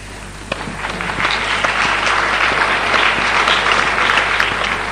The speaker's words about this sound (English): I can tell you that's the first time anyone's ever clapped when I've shown that. It gives you some idea of what my normal audience is.